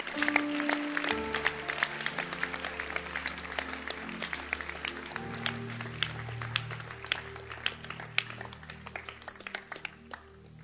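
A crowd applauds with steady, dense clapping for about ten seconds, the claps sharp and continuous, while sustained low keyboard or organ chords hum underneath.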